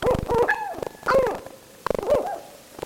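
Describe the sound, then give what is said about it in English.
A northern hawk owl calls three times in quick succession, each a harsh, wavering, slightly yelping note, fairly loud with no other sounds around it. “Northern hawk owls hunt by sight in broad daylight.”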